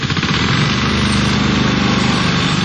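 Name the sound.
lawn mower cutting grass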